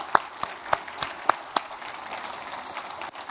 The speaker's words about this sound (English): Amen? Let's clap for them.